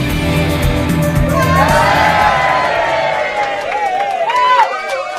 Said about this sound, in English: And that cheer was from a cast of thousands that have turned out today at Woods Farming and Heritage Museum